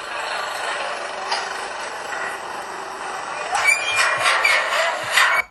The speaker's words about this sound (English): Okay, so hopefully you could hear that there was a lot of building work going on. There was some chatter and you could really hear the motorbikes as well.